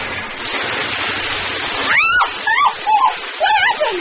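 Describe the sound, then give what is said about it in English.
A loud, steady rush of water gushing from a broken water pipe fills the first half, then high wailing, meow-like cries rise and fall several times over the continuing spray. “You hit a water pipe.”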